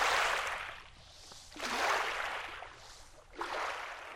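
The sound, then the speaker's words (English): Gentle water of the Salton Sea laps onto sand at Bombay Beach in soft, broad washes, three swells rising and receding over a few seconds, fairly quiet, with no voices. “At Bombay Beach, the silver-blue Salton Sea rocks gently over the sand.”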